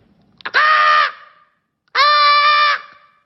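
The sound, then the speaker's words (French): A comedian imitates a seagull's cry with two loud, shrill, nasal calls, each lasting about half a second to a second and separated by a short silence. Harmonic and bright, with no other talk. “Tu vois, ça c'est une mouette ça.”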